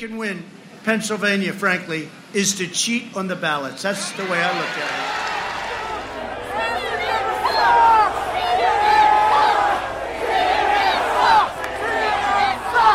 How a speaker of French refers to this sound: Là, toute la foule s'est retournée vers l'estrade où sont placés les journalistes et a crié CNN sucks, donc CNN ça craint, on pourrait traduire. C'est un grand classique de tous les meetings de Donald Trump.